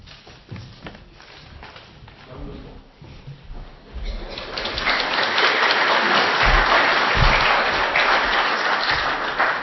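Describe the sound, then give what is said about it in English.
An audience applauds young performers, scattered and light at first, then swelling into a full, steady round of applause that stays loud until the end. “I think they deserve a better round of applause than that.”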